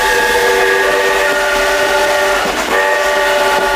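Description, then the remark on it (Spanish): A steam train in Arganda, Community of Madrid, Spain, runs by, its long, steady whistle sounding over a constant rumbling roar, with a brief dip near the end before the whistle continues. No one speaks. “Además, este tren, fíjate que es el único de la Comunidad de Madrid que sigue funcionando a vapor.”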